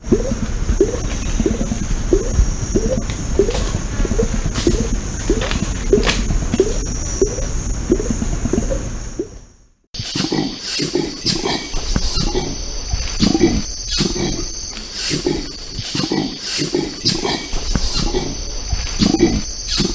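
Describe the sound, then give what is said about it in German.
An orangutan's biphonic call: a rhythmic series of deep, rumbling throat grunts, layered at the same time with sharp clicking sounds from the mouth, repeating steadily over a hissy outdoor background with a brief pause midway. “Die können gleichzeitig mit ihrer Kehle irgendwelche Summgeräusche machen oder grollen und gleichzeitig mit dem Mund irgendwie klackern.”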